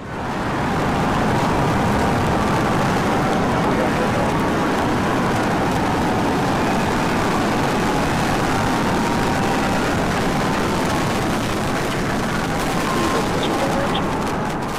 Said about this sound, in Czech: 14. března ve 14:25 našeho času se na texaské základně Boca Chica Starbase rozběhlo 33 raketových motorů Raptor. Zhruba 120 metrů vysoká Super Heavy Starship vyrazila na svou třetí misi.